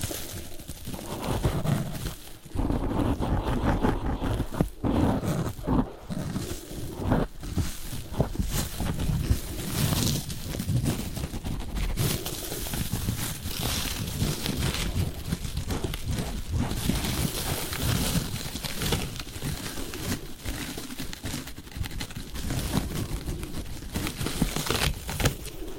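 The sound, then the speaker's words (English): Continuous rough rubbing and scratching of very harsh exfoliant paper as a mask is removed from a face, with crinkly friction strokes repeating steadily over about twenty-five seconds, no talking. “Using this very harsh exfoliant paper.”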